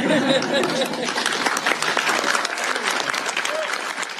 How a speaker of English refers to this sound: So with this, I'm happy to sign this bill. And having done so, everyone can applaud and bump elbows.